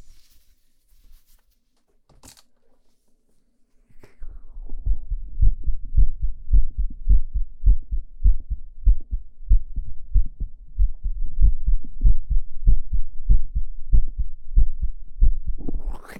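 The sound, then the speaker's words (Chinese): A fast, steady heartbeat heard through a stethoscope during a doctor's examination in an outpatient clinic, deep and muffled, starting after a few seconds of near silence and continuing in a quick, regular rhythm with no voices. “先听一下你的心跳啊。”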